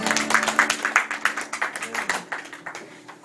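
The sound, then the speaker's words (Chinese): An audience claps their hands to give glory to God in a dense, rapid patter of overlapping claps, loud at first and gradually fading away over a few seconds, with a faint low hum beneath. “拍手将荣耀归给神。”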